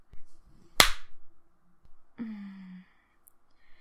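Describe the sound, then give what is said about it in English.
A single sharp, loud slap on skin cracks out once, followed after a pause by a short, low, steady vocal groan; no words are spoken. “Okay, you want me to slap you harder?”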